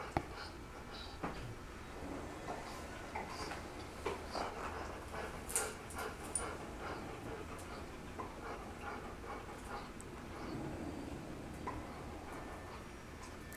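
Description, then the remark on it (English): A big dog lets out a low, drawn-out moan, faint, set against a steady background rumble with scattered light clicks and taps; nobody speaks. “Those who have brought the divine word and expressed it through flesh, and that's our big dog here who's affirming that with a moan.”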